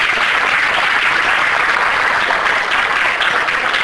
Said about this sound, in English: Give God a hand clap.